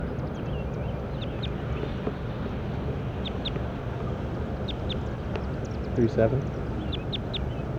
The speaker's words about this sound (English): Recording bird 37.